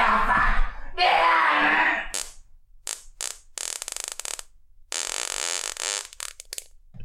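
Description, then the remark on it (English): A person blows a long, loud raspberry imitating a fart. It begins as one sustained buzzy blast, then breaks into a string of sputtering bursts of varying length. “it's literally just noises or farts”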